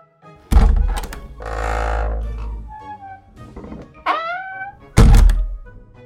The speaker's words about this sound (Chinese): 每一个人的心脏都几乎要暂停跳动了，大家睁大眼睛看着年轻人毫不犹豫地走向右边的门，并把门打开。